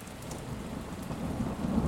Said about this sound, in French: Parce que le petit garçon, il n'a pas peur de l'orage alors que sa mère, si.